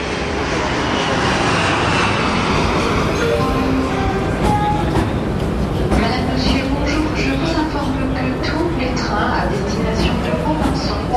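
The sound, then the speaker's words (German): A loud, steady airplane cabin engine drone fills the whole recording during a morning flight to Paris-Roissy Charles de Gaulle, a constant low roar with faint voices murmuring underneath. “Bienvenue à bord de ce valise Jet Europe à destination de Paris-Roissy Charles de Gaulle.”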